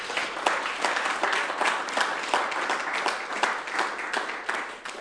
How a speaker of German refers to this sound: Vielen Dank auch an jeden Einzelnen, auch an das ganze Team, das vorab da ist, das aufbaut, das mit die probt, das dient, das in der Technik ist. Richtig, gebt denen mal auch einen dicken Applaus.